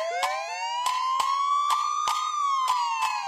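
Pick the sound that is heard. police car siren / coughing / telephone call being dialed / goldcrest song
police car siren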